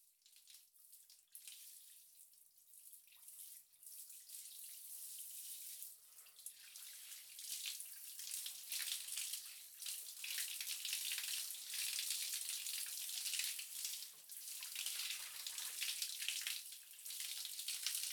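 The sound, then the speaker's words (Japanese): Steady running water streams and splashes, a continuous hiss as shampoo foam is rinsed off hair, with small fluctuations as it pours over the hair, with no voices. “では、そろそろ流しますね。泡が目に入らないよう、しっかりとまぶたを閉じていてください。”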